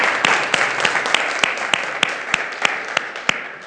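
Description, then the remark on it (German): A church audience applauds everyone attending for the first time, with a steady, dense wash of clapping, punctuated by sharper, louder claps landing in an even rhythm of about three per second, with no talking over it. “Er hat etwas vor und wenn sie heute zum ersten Mal da sind, dann freuen wir uns ganz besonders und wir geben einmal einen Applaus für alle, die zum ersten Mal hier sind.”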